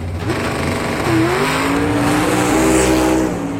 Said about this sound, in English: Then with a burst of speed, he passed him. His go-kart was so fast, he nearly lapped the other drivers.